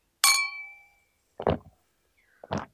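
A single bright clink of two glasses of alcohol in a toast between two friends at a KTV karaoke venue rings out and fades over about a second, followed by two short, duller knocks, like glasses being set down or handled.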